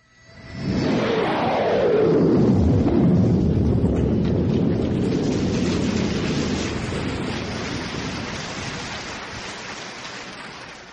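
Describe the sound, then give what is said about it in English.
A voice imitates a low-flying jet plane into a regular Shure microphone, with no props or tricks: a loud, breathy roar swoops downward at the start, then holds as a steady rushing rumble that slowly fades over several seconds, with no talking. “Low-flying jet planes, and boy, this is a winner.”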